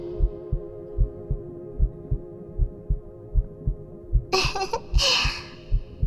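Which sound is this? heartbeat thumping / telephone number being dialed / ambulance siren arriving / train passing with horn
heartbeat thumping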